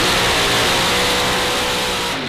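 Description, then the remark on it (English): A 1949 Mercury car with whitewall tires, its engine roaring loudly and steadily with a dense, throaty rumble and a low droning hum, its tone shifting slightly just before the end. No one speaks. “49 Merc with white walls. You need that ringtone.”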